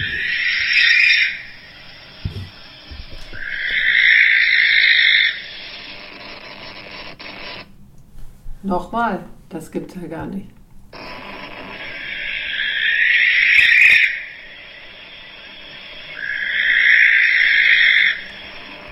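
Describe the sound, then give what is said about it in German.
A recording of a bird's shrill, harsh, hissing scream plays loudly, four drawn-out screeches in two pairs, with a short stretch of people talking in the gap between them. “Ich wollte jetzt mal den Schrei abspielen.”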